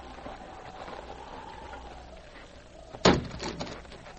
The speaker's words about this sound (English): With two blows, the sergeant broke the lock on the bunkhouse door.